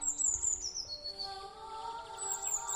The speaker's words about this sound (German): Der hübsche Vogel flattert auf und zwitschert weiter.